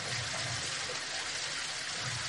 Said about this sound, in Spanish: Hemos alcanzado las partes inferiores del balneario. No sé si escucharéis la música. En esta ocasión me refiero al sonido de la música del agua golpear con las paredes.